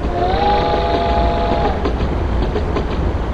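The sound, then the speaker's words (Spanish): A train rolls along the tracks with a loud, steady rumble, a high whining tone in the first half and a few faint rhythmic clacks of the wheels later on. “Nadie parece querer apearse de ese paraíso en forma de ferrocarril, hasta que descubren que están atrapados en sus raíles.”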